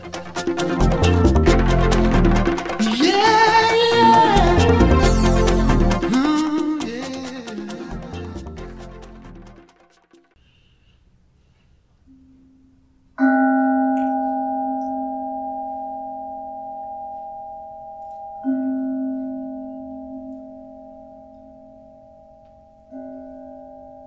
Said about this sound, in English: With a gentle mindfulness bell, we find ourselves stopping and opening at the same time, opening to this field of love in which we meet, an energetic field of spirit.